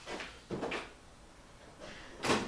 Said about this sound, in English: Let me just open the door here.